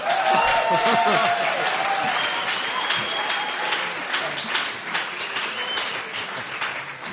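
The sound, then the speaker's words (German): Sustained applause from a sizable audience at an evening show, clapping again on request, dense and continuous, starting strong and tapering slightly over several seconds, with some faint voices mixed in. “Das war doch schon ein super Applaus, das haut doch schon super hin. Oder, das ist doch, klatschen Sie nochmal.”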